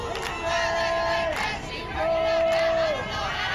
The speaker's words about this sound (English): Women's college softball games offer a constant soundtrack. The sport is ultra-competitive, yet for decades, softball players have brought a lighthearted nature to dugouts, complete with cheers, chants, dances, and props.